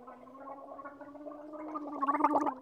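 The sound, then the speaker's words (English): Someone drinks tea and water with a steady, throaty gurgle, a low voiced hum full of bubbling that grows louder and choppier toward the end. No one speaks. “I'm going to drink some tea and water really quick, and then I will click ready and we'll go.”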